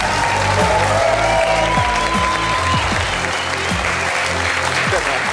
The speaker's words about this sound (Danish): Og I kan godt blive ved med at klappe, for nu kommer stjerneskuespiller og pilot i øvrigt, og så kæmpe fartfreak, Dar Salim.